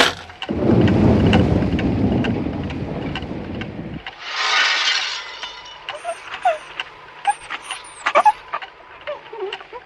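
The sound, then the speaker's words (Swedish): A loud, deep roll of thunder rumbles for several seconds over steady rain, then fades, leaving the patter of rain with scattered drips and crackles. “Jag förresten är livsfarligt att telefonera åskväder så det är så.”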